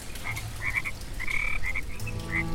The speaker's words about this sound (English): you hear from above you a great rising sound as if 100 frogs are singing together in harmony.